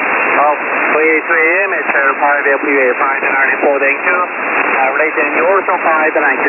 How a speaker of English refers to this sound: Would you believe I have S8 to S9 noise? I'm going to go QRT from static.